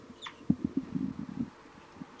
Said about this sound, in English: It's 4-3 giving the flight call. 3-3 responding with a few toops.